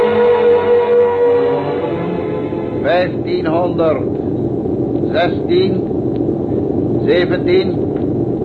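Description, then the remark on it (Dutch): A loud, steady engine rumble runs throughout as the motors are switched on, with a humming tone early on that shifts in pitch. Several short bursts of voices come through over the droning motor. “Motor aan.”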